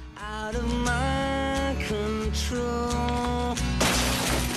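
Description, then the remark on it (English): A glass wine bottle, hurled at a bin, hits the edge of a kitchen sink and shatters on the floor near the end, a sharp bright crash with scattering debris, cutting through steady background music with a pulsing bass. “He hurls it at the bin. It hits the edge of the sink and smashes to the floor amidst other rubbish.”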